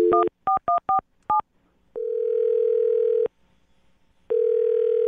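A phone number is dialed with a quick run of touch-tone beeps, followed by two long ringing tones separated by a pause, with no one speaking.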